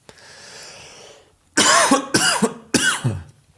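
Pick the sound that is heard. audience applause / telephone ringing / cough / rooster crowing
cough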